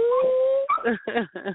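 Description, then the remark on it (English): A dog lets out a long, steady whine that breaks into several short, wavering whimpers and yelps, fairly loud, with no one talking. “Is that the dog still humping on stuff? I heard a noise.”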